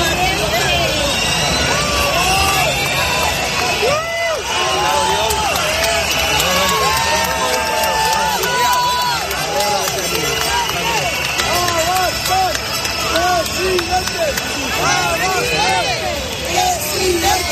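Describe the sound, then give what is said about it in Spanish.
A large protest crowd at a gathering on Ferraz shouts and chants continuously, greeting Vox leader Santiago Abascal with cries of "presidente"; many voices overlap in a loud, sustained roar with rising and falling cheers, whoops and a dense babble underneath for the whole stretch. “A esa concentración asistió Santiago Abascal, el líder de Vox, que fue recibido con gritos de presidente.”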